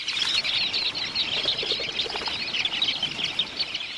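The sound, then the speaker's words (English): A dense flock of dunlins, small sandpipers, takes to the air flying close together; a steady rushing flutter of many wingbeats laced with thin, high chirps, sustained throughout. “When threatened by a falcon, for instance, dunlins take to the air, flying so close together that it's hard for a predator to capture one.”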